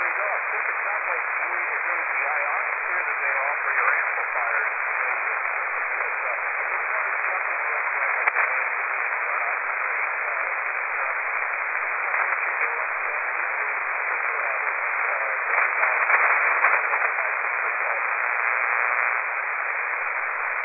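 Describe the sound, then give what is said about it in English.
Steady hiss of radio static fills the whole stretch, narrow and tinny like a shortwave receiver, with a faint, barely intelligible voice of a ham radio operator buried beneath it and fading in and out. “you are very light.”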